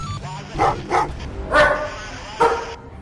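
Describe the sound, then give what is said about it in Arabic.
A trained drug-sniffing dog, led over a loaded cargo truck during a search for drugs, barks four times in quick, uneven bursts, fairly loud, over a steady background rumble. “هذا من الكلاب المدربة على التعرف على المخدرات.”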